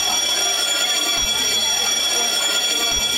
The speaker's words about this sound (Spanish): En ese momento sonó el timbre para irnos.